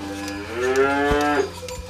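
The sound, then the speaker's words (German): A cow moos once in a long, rising-and-falling low call lasting about a second, with faint clanks and barn noise in the background and no talking; the cows in the barn are being milked. “Aber jetzt gehen wir ein bisschen auf die Seite, dass sie ruhig gemolken werden. Weil, wie gesagt, Kühe sind wie Menschen, haben auch Charakter und eine Persönlichkeit.”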